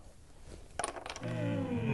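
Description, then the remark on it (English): A handful of coins clink down onto a table as a stake in a game of dice, a quick cluster of bright metallic taps, followed by a sustained voice starting up. “You need to get out your money and put it on the table.”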